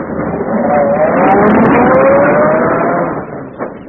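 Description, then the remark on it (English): A luxurious limousine's engine rumbles loudly and pulls away, its pitch rising as it accelerates steadily before the sound eases off slightly at the very end. “Seated in a luxurious limousine equipped with the correct English chauffeur”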